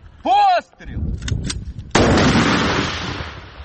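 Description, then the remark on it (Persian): A single heavy cannon blast from a Ukrainian tank firing at Russian forces on the battlefield near Bakhmut, Ukraine, booms out, its rumbling echo rolling on for over a second, after a brief voice-like call and scattered clatter. “میدان نبرد در نزدیکی بخمود گرم است و تانک های اوکراینی به سوی نیروهای روس شلیک می کنند.”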